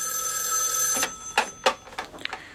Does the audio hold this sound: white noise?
no